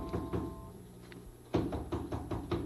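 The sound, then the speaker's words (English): Knocking on a front door: a couple of soft raps, a pause, then a louder, steadier run of five or so knocks, with no voices. “Must be someone at the front door.”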